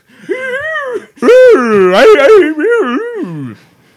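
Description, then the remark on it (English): A voice imitates whale song in a Mrs. Doubtfire voice, with no words, making long gliding moans and wails that swoop up and down in pitch, rising and falling in a few loud, sustained phrases with brief pauses between. “No words. Just noises. Just Mrs. Doubtfire whale song.”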